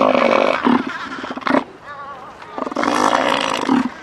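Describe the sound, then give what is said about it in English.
A very big elephant seal, about 1,500 pounds and the length of a small car, hauled out on a very small rocky island off the west coast of Antarctica, bellows loudly: a deep, rumbling, guttural roar in two long bursts separated by a brief, quieter gurgling pause. “Just off the west coast of Antarctica, a very big elephant seal is hauled out on a very small island.”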